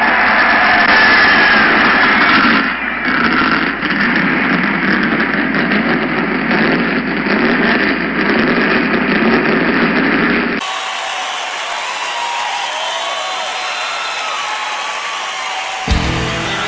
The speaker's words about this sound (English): Gentlemen, start your engine!